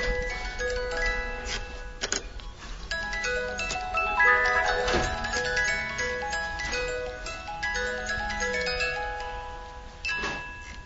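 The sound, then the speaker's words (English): A cuckoo clock movement, an exclusive movement made for partners in the Black Forest for high-hand cuckoo clocks, ticks steadily, with a few sharper clicks standing out against a layered background of sustained tones and hum. “That's in fact an exclusive movement we are doing for good partners we have in the Black Forest, and that's done for the cuckoo clock, but the high-hand cuckoo clock, of course.”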